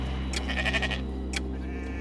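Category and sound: animal, sheep bleating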